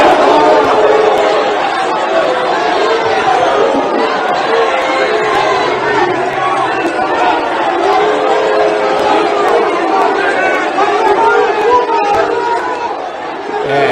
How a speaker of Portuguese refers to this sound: Ele apareceu no camarote uns 20 minutos antes da partida começar e a reação da torcida foi essa aqui, ó, de muita vaia. Vamos assistir.